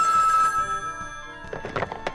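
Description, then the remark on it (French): A telephone bell rings, a steady bright ring at first, then a few short clattering bursts toward the end; it is a call to Graham Bell. “Yes, c'est moi qui est au téléphone.”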